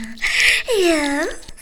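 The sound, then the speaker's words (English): A person imitates a dog with a single drawn-out, yelping bark, voiced close to the microphone and fairly loud, preceded by a brief breathy hiss. “Bark for it”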